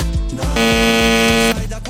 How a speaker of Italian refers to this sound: Allora, sentiamo chi c'è al citofono.